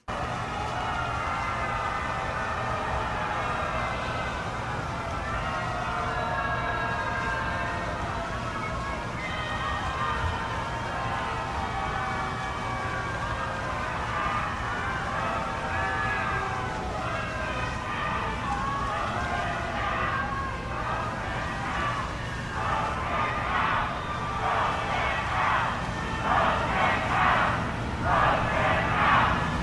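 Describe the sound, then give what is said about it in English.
A large crowd outside the Supreme Court, where Ruth Bader Ginsburg lay in state, reacts loudly as Donald and Melania Trump pay their respects: a dense, steady roar of many voices booing that swells into rhythmic, chant-like surges toward the end. “Brian, would you like to hear the crowd's reaction while they were there?”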